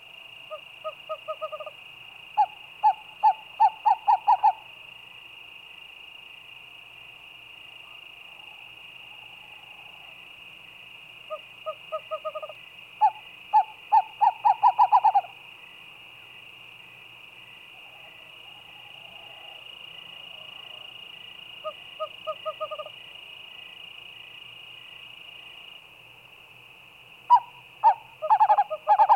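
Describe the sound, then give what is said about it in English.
A western screech owl gives repeated series of soft, hollow whistled toots that speed up toward the end, set against a steady high insect drone in a quiet night setting. “Its most frequent call is an accelerating series of soft whistles or toots.”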